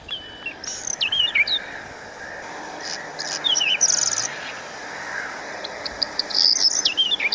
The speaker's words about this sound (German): spielt den Ruf des kleinen Vogels auf ihrem Handy vor.